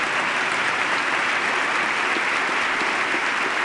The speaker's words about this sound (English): And everyone is applauding the First Lady, who stands to acknowledge the applause and takes her seat.